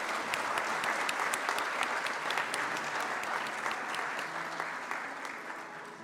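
Steady audience applause, many hands clapping in a dense, crackling wash that holds an even level for about six seconds before easing slightly at the end. No voices stand out.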